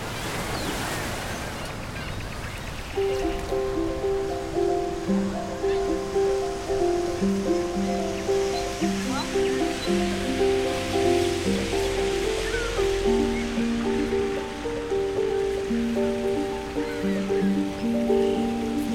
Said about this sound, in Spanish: Ahora se escucha el viento, las olas.